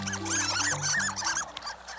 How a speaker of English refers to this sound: Some ducks don't sound like ducks at all. Some, like the harlequin, squeak, earning them the nickname of sea mice.